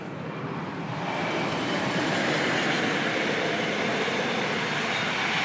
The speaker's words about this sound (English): Train.